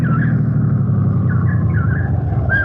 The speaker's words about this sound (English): Oh, hey, I hear a car coming. Oh, great. Let's flag it down. Hey! Hey, over here! Oh, it's a state policeman.